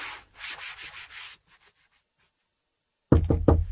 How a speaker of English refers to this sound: Do come in, Doctor. You don't have to knock, you know.